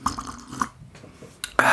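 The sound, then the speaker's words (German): Wet slurping of mulled wine from a cup: a few small sips and smacks, a brief pause, then a louder, drawn-out slurp at the end. No one speaks. “Einfach alle mal schlürfen.”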